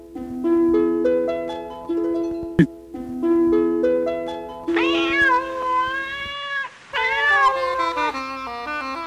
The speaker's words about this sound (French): Quand vous lui faites peur à ce chat, hein?